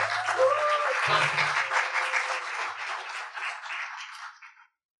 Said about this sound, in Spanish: Un fort aplaudiment, sisplau